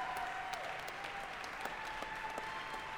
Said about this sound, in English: And a standing ovation from the crowd